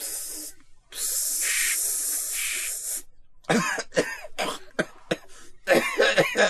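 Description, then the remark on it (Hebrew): A brief burst of deodorant spray, then a longer steady hissing spray lasting about two seconds, followed by a rapid string of loud, harsh coughs. “חכה, אני, יש לי פה דורדורן בשבילך”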